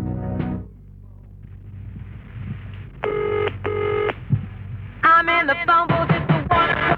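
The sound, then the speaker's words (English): A telephone rings with a classic double trill, two short bursts close together, followed by a louder, busier stretch of electronic ringing tones over a low background rumble. “You won't be left hanging on the telephone if you go to the telephone center of 3 Academy Street, Navan and County Meath.”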